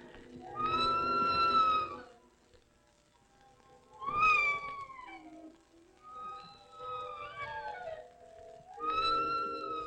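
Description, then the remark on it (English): A series of drawn-out, tonal mewing calls from the Octababy creature responding to a man, four distinct cries with pauses between them, fairly loud, rising and falling in pitch like a cat's plaintive meows. “they had a conversation in the script somewhere where the man was talking to the Octababy and asking like whether it was a girl or a boy, and it was seemingly responding to him in a series of mewing noises.”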